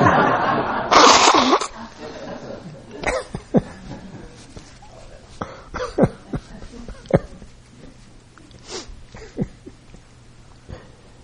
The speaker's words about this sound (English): What's going on here? He asks as he blows his nose.